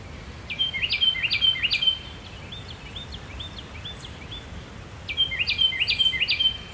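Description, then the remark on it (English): A Carolina wren sings in a forest: two loud, piercing, ringing bursts of rapidly repeated rolling phrases, separated by a pause, over a soft background hiss with no one talking. “Maybe, you know, I'm hearing a Carolina wren just call consistently.”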